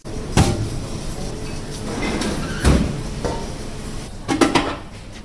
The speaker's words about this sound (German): Kühlschranktüren auf, Kühlschranktüren zu.